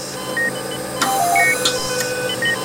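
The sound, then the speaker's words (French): Overlapping electronic alarm beeps in a hospital emergency department, short tones at several different pitches sounding at once, over a steady mechanical hum with a few clattering knocks and no talking. “C'est un concert d'alarme permanent.”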